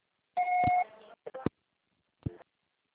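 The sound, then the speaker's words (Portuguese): A single steady electronic voicemail beep lasting about half a second, followed by a few short, sharp clicks or knocks, then quiet. “Grave seu recado agora.”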